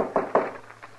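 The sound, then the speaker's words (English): Two solid knocks on a wooden door land close together, followed by a couple of softer, fainter taps, over a quiet low hum with no voices. “The door ain't locked.”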